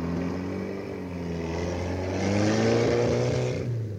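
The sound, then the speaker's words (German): A car engine hums steadily with rising and falling tones as the car drives away through a gate and turns onto a road, growing slightly louder as it accelerates before easing off, heard alone without any voices. “Wir sehen im Auto nach.”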